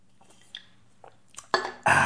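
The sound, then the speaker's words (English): Mouth sounds: a few faint clicks and swallows, then a loud, noisy slurp of Mountain Dew soda followed by a breathy exhale, with no talking. “Little sip of Mountain Dew here.”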